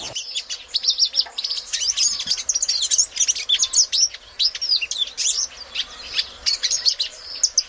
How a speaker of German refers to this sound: deutschen Namen Türkis Elminie. Ein panafrikanischer Vogel, der von Westafrika bis in den Süden von Angola und in den Osten von Kenia vorkommt